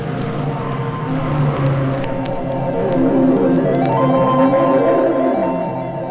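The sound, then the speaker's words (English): Loud engines roar steadily with layered droning tones that climb in pitch partway through as they rev, over a rough, noisy wash that may be a crowd, played from an old sound-effects compilation on vinyl. “Start your engines.”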